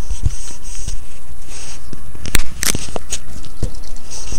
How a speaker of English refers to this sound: Okay, we're getting ready to crackle this little neon strip.